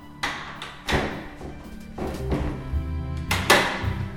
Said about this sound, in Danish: Han åbner kun lige døren en lille smule, så kan jeg jo godt regne ud, at hans hund er derinde bagved.